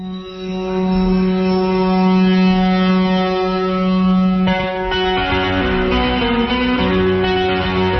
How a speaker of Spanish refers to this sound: Hombre, el principio parecía la bocina de un barco, tío.